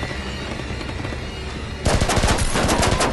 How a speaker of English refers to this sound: Taking cover, Theo leaps onto one of the buses, which is peppered with gunfire.